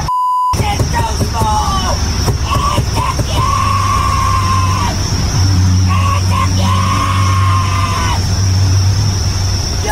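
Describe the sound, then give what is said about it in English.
A woman screams and yells furiously at somebody in a vehicle in loud, drawn-out bursts, with two especially long sustained shrieks, over a steady hum of traffic and a high electronic tone. “She was screaming at somebody in a vehicle about a certain part of their anatomy and was definitely losing it.”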